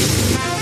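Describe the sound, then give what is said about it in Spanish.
A motorcycle engine, after a tune-up and service, runs smoothly for a brief moment, a loud, steady hum with an even, buzzy tone and no sputtering. “Y esa misma moto, pero con el seguro de Línea Directa que incluye la puesta a punto con revisión gratuita, así.”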